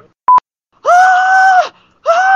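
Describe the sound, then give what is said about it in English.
A voice imitates a pterodactyl screech in a reenactment of a screech on a bus, with a loud, shrill, sustained shriek lasting under a second, then a second screech that starts and breaks off. A brief sharp click comes just before. “And I basically had a pterodactyl screech on the bus.”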